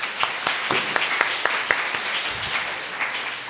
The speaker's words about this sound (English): So can we give a round of applause for everybody, please?